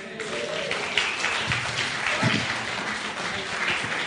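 An audience applauds steadily as a speaker is welcomed up, with dense overlapping clapping that stays loud and even throughout, plus a few murmurs and voices mixed in beneath it.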